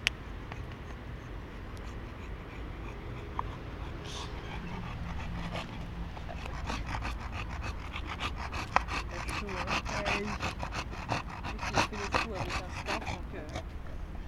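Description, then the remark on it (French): A dog struggling in the heat on a walk along the quays pants heavily and rapidly, a steady run of harsh breathy huffs over a low background rumble, growing more insistent in the second half. “Je regarde mon chien, il est là. Et il a du mal, il a chaud.”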